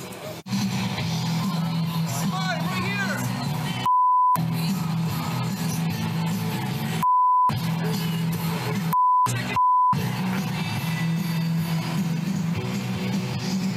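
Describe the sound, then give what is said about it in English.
Four short, steady censor bleeps cut through a noisy outdoor crowd on Justin Trudeau's campaign trail, each briefly replacing a man's angry shouting of an insult about Trudeau's wife, with the clamor of voices continuing between and after them. “They beeped it.”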